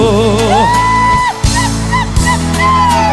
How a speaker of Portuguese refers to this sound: Eu quero ver o grito apaixonado dos homens.